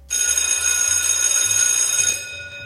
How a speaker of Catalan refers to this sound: Ja ha sonat el timbre, va exclamar la Marta